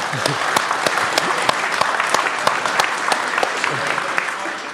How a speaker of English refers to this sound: Give this person a round of applause.